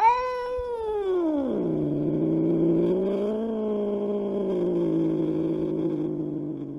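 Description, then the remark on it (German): A single cat lets out one long, drawn-out caterwaul, starting high, dropping into a low, wavering yowl that holds steadily for several seconds. Fairly loud, with no talking. “Man weiß ja nie, wo doch in langen, kalten, windigen Winternächten manchmal immer noch ein unheimliches Katzengeheule zu vernehmen ist.”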